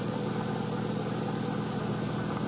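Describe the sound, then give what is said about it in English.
A taxi's engine hums steadily at a low idle, moderately loud, as the car stops at a red traffic signal in a downtown district, with no voices and no change in pitch across the short stretch. “What are you stopping for?”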